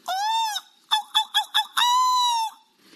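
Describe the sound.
A BBC presenter imitates a seagull: a long, nasal squawk, then four quick clipped yelps, then another drawn-out wail. The calls are loud, with no other talking.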